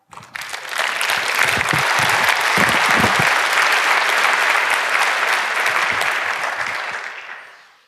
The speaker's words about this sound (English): And while we wait, we can have another round of applause for Bunny.